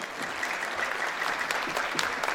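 An audience applauds steadily as two people are invited onto a stage, a dense wash of many hands clapping at moderate volume throughout, with no voices standing out.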